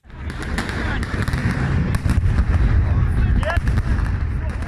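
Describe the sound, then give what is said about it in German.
Repeated sharp blasts of stun grenades, thrown by police in Minsk late in the evening and at night to push back and disperse a protesting crowd, go off at irregular intervals over a dense, continuous roar of crowd noise and shouting, with a few higher whistling tones cutting through. “Das ist kein Feuerwerk. Das sind Blendgranaten, die am späten Abend und in der Nacht in Minsk von der Polizei geworfen wurden, um die protestierende Menge zurückzudrängen und sie aufzulösen.”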